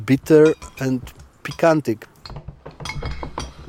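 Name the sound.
dishes and glasses clinking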